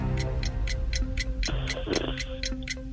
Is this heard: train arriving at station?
no